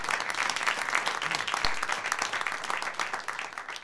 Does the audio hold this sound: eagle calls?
no